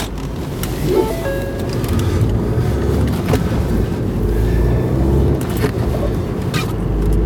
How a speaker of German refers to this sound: So, das Auto ist wieder voll. Also weiter im Text, sobald ich hier vorsichtig mich wieder in den Verkehr eingefädelt habe.